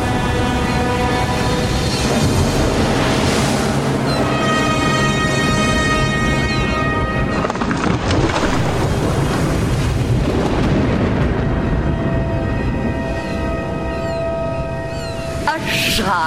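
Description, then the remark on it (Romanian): A storm with thunder and crashing waves: a loud, unbroken roar with deep rumbling booms, layered over sustained, ringing tones throughout. “Furtuna asta este binevenită.”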